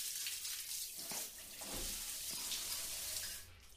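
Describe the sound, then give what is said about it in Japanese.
Steady rain falls outside, hissing without a break, a dense bright wash of falling water broken by a few soft patters and drips, with no voices at all. “まだ外雨だし。”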